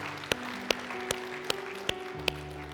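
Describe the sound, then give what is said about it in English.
Six sharp hand claps given to the Lord land in a steady, even rhythm, about two per second, over a sustained, droning keyboard chord that shifts pitch partway through. Nobody speaks. “Why don't you give the Lord a hand clap with those who are saying that for the very first time.”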